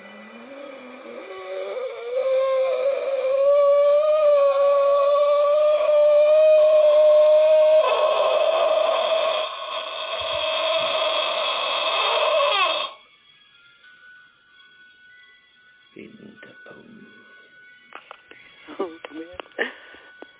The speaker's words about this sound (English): Now I'm even more glad that you gave that disclaimer, because that's like this blood-curling shriek noise.